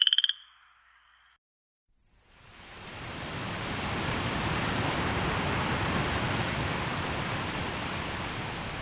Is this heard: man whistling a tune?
no